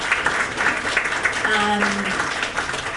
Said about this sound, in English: That was awesome. Another round of applause for all of our winners and our runners.